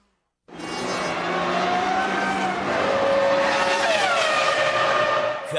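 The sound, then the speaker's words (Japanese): A race car roars steadily, its engine pitch rising and falling as it carries speed through bends with almost no braking, on a line chosen to use its momentum to make up for a lack of engine power, with a brief tire squeal near the start. “ええ エンジンのパワーがないのをカバーして車の打力勢いを生かすラインに変えとる。”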